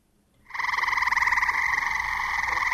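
A dense chorus of tree frogs croaking all at once, a steady pulsing trill that starts abruptly and holds loud and continuous without any voices.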